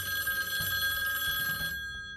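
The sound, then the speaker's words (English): A telephone's bell rings in one sustained, rattling burst, loud, then cuts off abruptly, leaving a brief quiet tail. “I was actually the one who answered the phone call.”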